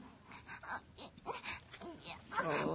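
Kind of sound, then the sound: human body sound, baby whimpering and crying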